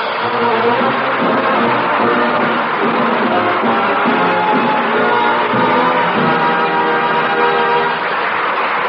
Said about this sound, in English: Ladies and gentlemen, thank you very much for applauding that thing.